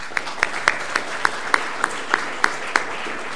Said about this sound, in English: I think we should give him a brief round of applause.